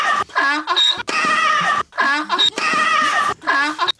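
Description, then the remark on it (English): A human voice imitates a donkey braying in a mock tennis rally, with loud, strained hee-haw calls in four quick bursts separated by short gaps. “She wants a donkey and Azarenka in a little rally.”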